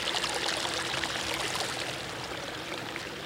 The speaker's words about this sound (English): It's not really feeling, but it's almost like as if you can feel the sound. The water's moving over rocks and little stones and small pebbles. And the trees moving.